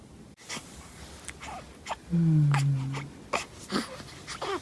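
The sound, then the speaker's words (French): A newborn baby lets out a short, soft whimpering moan lasting about a second, amid small rustles, sniffles and breathy noises. “Bonjour bébé. Bonjour. Tiens, tiens. Bienvenue parmi nous.”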